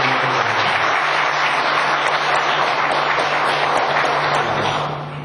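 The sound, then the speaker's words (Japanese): A crowd breaks into steady, dense applause after a speech, at the host's request, many hands clapping together at a constant loud level for about five seconds before it starts to taper off at the end. “ご一緒の皆様、拍手よろしくお願いします。”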